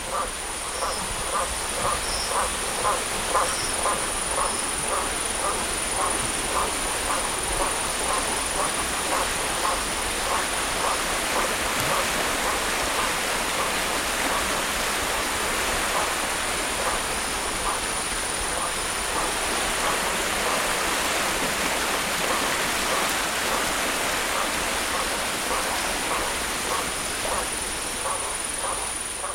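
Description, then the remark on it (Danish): Iguanas calling at night from trees along a river in a Babassu forest, in a steady, rapid series of croaking pulses, repeating rhythmically over a constant wash of rushing water and night ambience, with no voices present. “Og først så tror jeg, det er frøer. Men så finder jeg ud af, at det er liguaner, der sidder oppe i træerne langs floden.”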